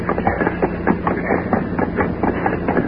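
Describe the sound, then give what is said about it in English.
A heavy armored truck approaches with a steady low engine drone and a regular, rhythmic clatter. The sound is fairly loud and constant throughout, with no voices. “It looks like the armored truck coming now.”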